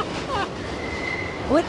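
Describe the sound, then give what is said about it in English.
A subway train runs along the rails with a steady rumble, a thin metallic squeal drawing out in the middle and short screeching wheel chirps at the start and end. “It sounded like we were in a field, and then we were in a cab, and then we're in a train in the subway.”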